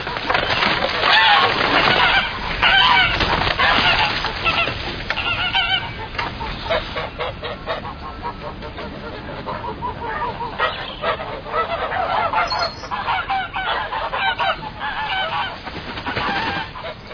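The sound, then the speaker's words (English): A flock of geese honks loudly and continuously in the corner of a yard, harsh overlapping calls with no one speaking. “I looked at the geese, which was hissing and huddling in the corner of the yard. My sister had told me that I might have the pick of her geese for a Christmas present.”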